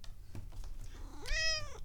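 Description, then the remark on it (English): A single domestic cat meow in a kitchen, a rising then falling drawn-out cry lasting about half a second, heard alone over faint low background rumble. “Tell us a kitty joke.”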